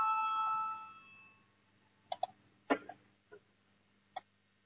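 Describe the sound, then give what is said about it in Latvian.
A steady electronic bell tone rings to call a parliamentary vote on the budget and finance committee's fifth proposal and fades out, followed by a few scattered sharp clicks and knocks in otherwise quiet. “Lūdzu, zvanu balsosim par piekto budžeta un finanšu nodokļu komisijas priekšlikumu.”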